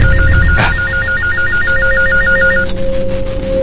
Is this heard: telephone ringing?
yes